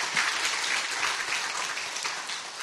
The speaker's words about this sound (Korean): 그렇게 우리 원래 가족들 중에서 자녀분들 데리고 오신 분들 환영하는 의미로 잘 오셨습니다. 우리 박수하도록 하겠습니다.